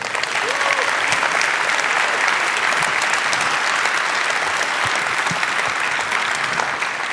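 An audience applauds steadily to welcome a speaker onto the stage for a talk, a dense wash of many hands clapping at an even level for several seconds without a clear break or rise.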